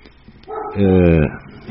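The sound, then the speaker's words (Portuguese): A small female dog lets out a single drawn-out, whining yelp, fairly loud, rising in pitch before holding steady and cutting off, with quiet background before and after. “Se vocês ouvirem a minha cachorrinha latindo, é a opinião dela, viu?”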